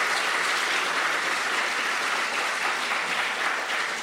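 A crowd claps steadily for about four seconds, a dense, even patter of many hands at a fairly loud, constant level with no voices standing out.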